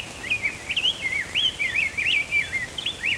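song sparrow singing

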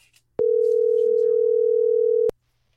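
telephone ringing tone

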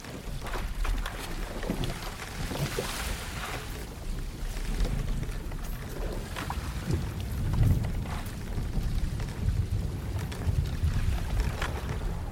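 boat at sea

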